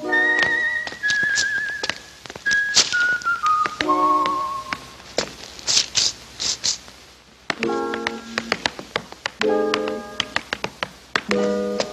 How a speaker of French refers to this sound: Tiens, écoute. Bon, t'as reconnu ? Des claquettes, une latte de parquet, une feuille de journal.